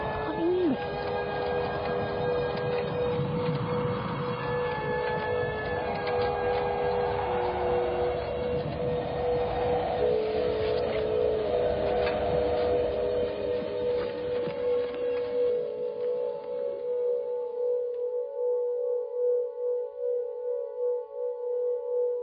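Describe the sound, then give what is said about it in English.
Sine tones from a sonic art installation that generates them by itself: several steady electronic pitches overlap in a dense, droning cluster, then the busier texture fades, leaving a few sustained mid-pitched tones humming alone. No one speaks. “It's a piece of sonic art. Mm. Very clever it is. It generates sign tones all of itself.”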